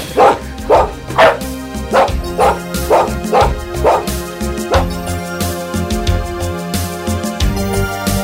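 A dog barks repeatedly in a quick, lively series of loud woofs, with some yips mixed in, over a steady musical background.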